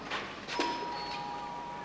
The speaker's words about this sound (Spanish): llega a la puerta del piso y llama al timbre.